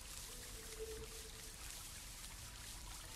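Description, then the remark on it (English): Steady, soft sounds of deep water, a gentle trickle with faint lapping, continuing throughout at a low, even level with a brief faint tonal hum near the start and no voices. “We got some water.”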